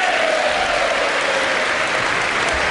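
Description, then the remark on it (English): A large audience applauds steadily after an announcement that more than 300 trafficked women and girls were rescued, a dense wash of clapping that stays loud and even throughout, with a faint undertone of cheering voices mixed in. “Now, you think everyone would cheer for that.”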